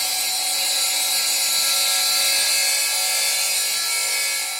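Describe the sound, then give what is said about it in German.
A circular saw cuts through laboratory glass in a university glass workshop, a steady, piercing high-pitched screech that holds constant for several seconds, loud, with no voices. “Hier kann Laborglas mit diamantbesetzten Bohrern durchlöchert oder kreischenden Kreissägen getrennt werden.”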